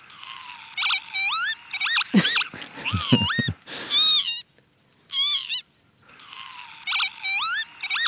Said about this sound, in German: Ich finde nämlich, der Kiebitz hat eine der lustigsten Vogelstimmen überhaupt.